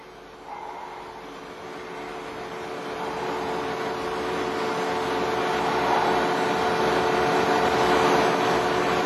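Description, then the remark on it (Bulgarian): A deep, steady engine rumble with a broad hissing wash swells gradually louder as the engines of an old 1950s-model submarine approach underwater. No voices are heard. “Се здраво за скалата, че вълнението от двигателите може да ни отнесе.”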